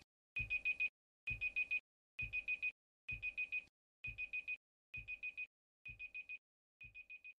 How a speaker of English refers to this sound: And that's my timer, so I'm getting out of here.